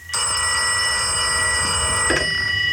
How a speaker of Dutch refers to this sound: Die liet gewoon zijn dochtertje de telefoon opnemen.